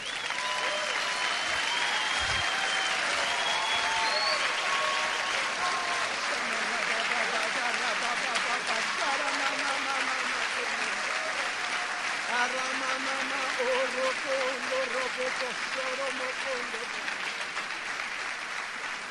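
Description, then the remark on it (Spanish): Sustained applause from a church audience, given to the King of Glory, fills the whole clip, a dense, steady wash of clapping with voices and cheers rising through it. “Si lo crees, dale un aplauso al Rey de la Gloria.”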